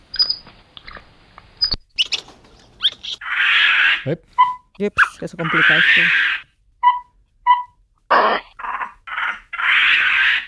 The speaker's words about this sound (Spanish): Monos. Son monos capuchinos. Monos, sí, de la América Central y América del Sur.